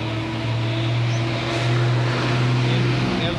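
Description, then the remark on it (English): An old city bus engine in New Delhi rumbles in a steady, loud low drone with a hum that holds through the whole moment, set against a wash of street noise and no talking. “These buses are also so old. Old and creating sound so much.”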